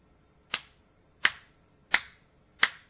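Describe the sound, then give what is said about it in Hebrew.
Four crisp, sharp hand claps at a steady, unhurried pace, each a bright, snappy crack that dies away quickly, heard alone with no talking. “לפני שזה נקרא מחיית כף, לפני שזה נעים או לא נעים, לפני, עוד פעם הוא עושה את זה, לפני כל הדברים האלה,”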